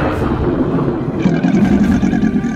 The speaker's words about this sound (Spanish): Surgió del abismo un ser infernal, un dragón morado que salió del mar. Rugió como un trueno.